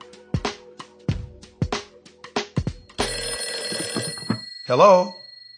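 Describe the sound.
A telephone rings in a series of sharp, rapid bell bursts, then settles into a continuous ringing tone, with a brief voice heard near the end as the phone is picked up.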